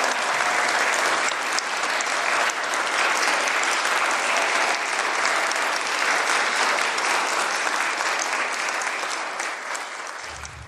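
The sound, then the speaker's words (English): A church audience gives a warm round of applause to people returning to their spots in the middle of the chancel, with steady, dense clapping that holds loud and even for about ten seconds before starting to taper off at the end. “And as they do that, would you all give them a warm Christian round of applause?”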